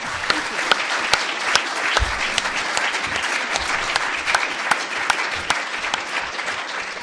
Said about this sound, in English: It was very open and generous, and each one of you, thank you for doing that, because I'm sure everybody here would join me in saying thank you and clap. Thank you.